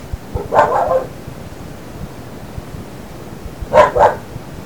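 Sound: dog barking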